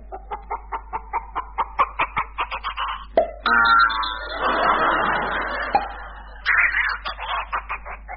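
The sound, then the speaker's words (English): A hen laying a rubber bouncing egg clucks in a quick, steady rhythm, breaks into a loud, harsh squawking flurry for a few seconds, then settles back into rapid clucking, with no voices. “Right now, here is a recording of a hen laying a rubber bouncing egg.”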